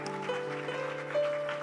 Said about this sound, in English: Thank you, thank you. Why don't you give just the Lord one more hand clap of praise?